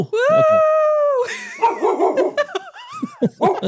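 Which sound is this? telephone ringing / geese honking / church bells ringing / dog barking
dog barking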